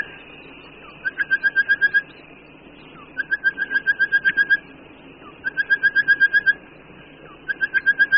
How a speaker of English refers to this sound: the artistic orange-breasted bush shrike, which has three main variations of a substantial repertoire of songs.